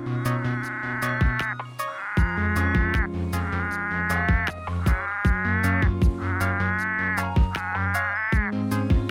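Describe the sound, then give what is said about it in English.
A chorus of male Australian red-eyed tree frogs calling for mates, with repeated nasal, bleating bursts overlapping in waves, sharp clicking notes scattered throughout and a steady low droning underneath. No one speaks. “Males congregate in flooded areas and mountain streams to call for mates.”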